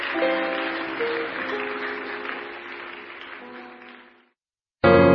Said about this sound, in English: Let's honor them, Koinonia. Thank you. Hallelujah. Praise the Lord. Let's keep clapping. They are going. They are on their way going.